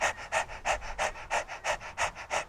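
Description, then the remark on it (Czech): As a breathing exercise, a person pants quickly like a dog with tongue out and a hand on the belly, in short breathy huffs at a steady, fast rhythm, about three per second. It sounds moderately loud, with no talking. “Dejte si ruku na břicho a dýchejte s vyplazeným jazykem.”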